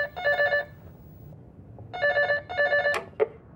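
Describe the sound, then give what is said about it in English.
A telephone rings in two bursts of rapid electronic trilling, the second followed by a click as the line is picked up, with a low hum of room noise underneath and no voices. “We can't get the phone at the moment.”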